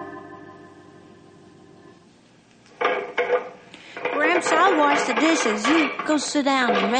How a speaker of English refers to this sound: Dishes. You go sit down and rest your leg. Well, that's all right, son. I'll finish the dishes.